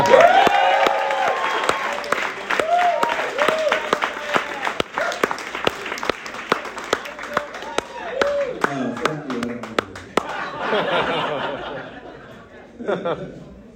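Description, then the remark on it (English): An audience applauds steadily, sharp claps layered into a dense rolling wash, with excited voices and some whooping mixed in before the clapping thins out toward the end. “that's legendary, the applause that I got.”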